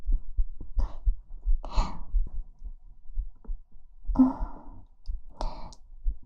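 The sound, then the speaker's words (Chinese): A girl's fast, steady heartbeat thumps low throughout, with soft breathy sighs rising over it now and then. “心跳也变得快起来了。”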